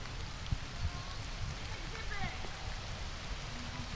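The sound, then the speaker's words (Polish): Light rain starts to fall in a steady, even hiss, with scattered soft drop taps and a low rumble underneath; a few faint, brief tones surface briefly in the middle. “No i trochę nam się rozpadało, ale to nic nie szkodzi. Jak słyszeliście Państwo, to nawet lepiej.”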